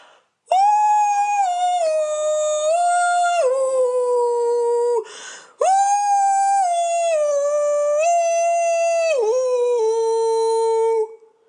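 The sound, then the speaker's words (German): A dog named Hatze, inside a car, raises its snout and howls along to music on the car radio in two long, sustained, siren-like cries with a brief breath between, the pitch sliding and wavering, rich in harmonics. Loud, with no voices over it. “Die Hatze hebt die Schnauze, kippt die Ohren zur Seite und legt los.”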